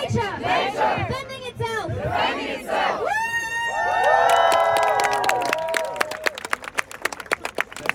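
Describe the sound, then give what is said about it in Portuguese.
A protest crowd demonstrating outside the Parliament on the day of a debate chants in loud rhythmic bursts, then sustained high whistle or horn tones ring out over the noise, followed by sharp repeated claps or beats. “E no próprio dia do debate conseguimos ter duas manifestações à porta do Parlamento, uma manifestação de ativistas, onde estava a Greta Thunberg, e também a manifestação do agronegócio.”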